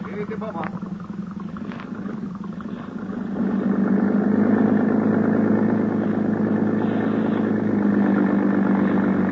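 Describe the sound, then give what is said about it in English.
A police motorboat engine at the Harbor Police Dock runs with a steady, throbbing drone that swells louder a few seconds in and then holds at an even, rumbling idle. “When Sergeant Malva finally arrived at the Harbor Police Dock, a boat was ready for us.”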